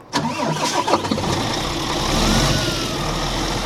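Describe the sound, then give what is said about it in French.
A big, brand-new truck's engine turns over with a short, uneven burst, then settles into a steady, deep idling rumble, with no voices. “Il a accepté de me faire monter dans son gros camion flambant neuf.”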